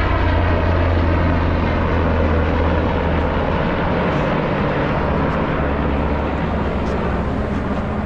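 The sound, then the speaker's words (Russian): A helicopter drones loudly and steadily, its rotor and engine forming a dense, constant roar with a deep low hum running underneath for the whole stretch. “Вертолетик.”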